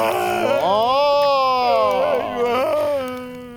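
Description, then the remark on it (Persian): A person cries out in a long, loud, wavering wail, the voice rising and sliding in pitch before trailing off, with no talking. “چرا گریه میکنی عزیز جان؟”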